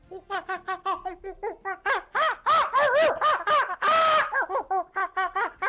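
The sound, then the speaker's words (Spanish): A chimpanzee or monkey calls in a rapid series of loud, harmonic hoots and squeals, building to longer rising-falling shrieks midway before returning to quick pulsing bursts. No talking. “Pues tenemos mono o chimpancé, chimpancé, mono, que nos dejaba en nuestro WhatsApp”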